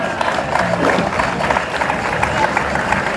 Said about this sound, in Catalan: Un fort aplaudiment.